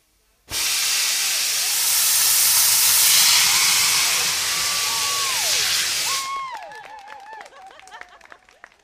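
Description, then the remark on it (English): A rocket-propelled punt blasting along a river on a trail of sparks and flames, faster than walking pace, lets out a loud, steady rushing hiss that starts abruptly and roars for about six seconds before cutting off, leaving scattered high, wavering tones behind. “We've just witnessed the incredible sight of a punt being blasted along the river by a trail of sparks and flames, and at a pace, I'd say faster than walking pace, but not quite a jog.”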